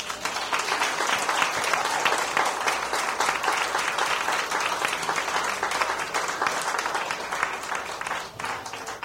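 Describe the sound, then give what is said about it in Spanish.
A crowd breaks into sustained applause, dense overlapping clapping holding at a steady, loud level for several seconds before easing slightly at the end. “Y vamos a darle un aplauso al apóstol”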